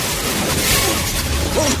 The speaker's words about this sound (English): Spraying pipes emerge from the back of the limo. John swerves right to left, skids, and flips over.